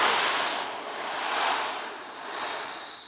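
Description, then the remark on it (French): A voice imitates an icy cold north wind arriving in winter: a steady, breathy whoosh with a hissy high edge that swells and eases in slow waves for about three seconds, with no words spoken. “Les feuilles des arbres sont tombées, le vent du nord est arrivé, glacial.”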